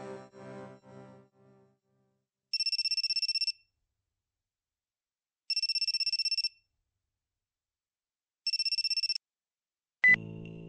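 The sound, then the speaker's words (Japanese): A mobile phone rings with an incoming call in three separate electronic bursts, each about a second long with pauses between, loud, followed by a short click as it is answered; brief voices come before the ringing. “そして葬儀も終わった数日後、ありえない電話が僕の携帯にかかってきた。”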